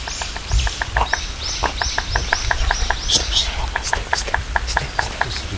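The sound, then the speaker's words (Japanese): A Japanese pygmy woodpecker (kogera), a small striped woodpecker, taps on wood in a quick, steady series of light knocks, while other birds sing and chirp in the background. “こっちでコンコンコンコンって落としてる。”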